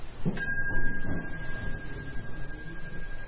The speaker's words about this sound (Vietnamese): Đứng dậy, sau khi nghe tiếng chuông đứng dậy, xá thầy xong qua lại xá các cô các chú.